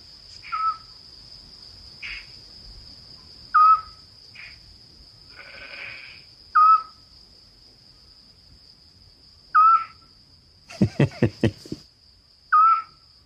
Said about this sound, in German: Kennst du ihn? Ja, den mag ich auch gerne, den Vogel. Das ist die Zwergohreule.